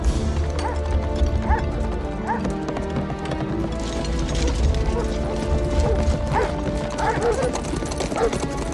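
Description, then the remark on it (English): Horses' hooves clip-clop in a steady, uneven rhythm as King Einan on his white horse and Brock on his horse ride out of the castle, amid a dense, busy background of clattering and mechanical noise, sustained at a fairly even loudness throughout. “King Einan hops up on his white horse while Brock mounts his.”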